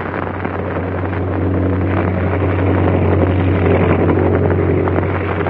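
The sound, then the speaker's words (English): A steady, loud engine drone fills the cabin of a speeding airplane flying high in the sky, with a strong low hum and a broad rushing roar. No voices are heard. “But that bright dot is a speeding airplane. And let's see what's going on inside the cabin.”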